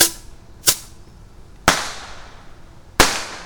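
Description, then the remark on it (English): Sharp firework bangs from bottle rockets lit and launched from a tube, three distinct cracks spaced about a second apart, each loud and abrupt with a brief echoing tail, over faint outdoor background noise. “All right, last two bottle rockets are going in the tube. Lighting one, lighting the second one. Whoosh, whoosh.”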